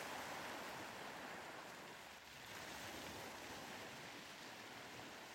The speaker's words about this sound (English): The gentle waves continue their eternal dance, each one carrying the calming energy of Cornwall's pristine waters.